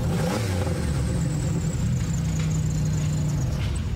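The rough, loud engine of a Pontiac Bonneville demolition derby car, coming off the trailer, rumbles steadily with a throaty low growl and clattery mechanical noise, its pitch shifting slightly as it idles and revs. No one speaks.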